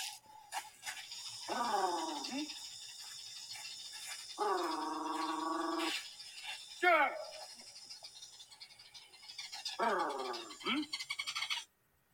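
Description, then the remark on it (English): A honeyguide bird chatters steadily in the background while a man repeatedly makes loud, rolling trilled calls, a signal used to attract honeyguides, four or so bursts spaced a few seconds apart. “So in that recording, the chattering in the background was the bird? And the first... Brrr. That was a man, wasn't it?”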